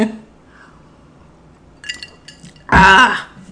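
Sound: glass clinking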